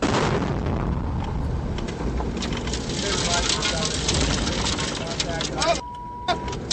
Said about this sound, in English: The explosion showered metal and sand into the Humvee, leaving those inside coughing. But the vehicle kept going.